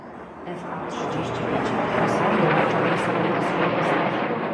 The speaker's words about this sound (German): Kampfjets donnern über das Warschauer Zentrum. Tausende bestaunen am Weichselufer die Flugeinlage. Über Lautsprecher erklärt eine Moderatorin den Flugzeugtyp. Es sind F-35, einige der weltweit modernsten Jets.